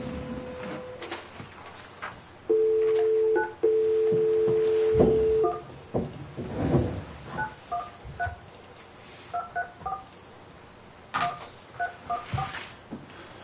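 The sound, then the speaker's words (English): A phone line tone sounds, then a rapid series of short keypad beeps, dialing tones pressed one after another in irregular bursts, clear with faint room noise underneath. “So are we ready to call these people?”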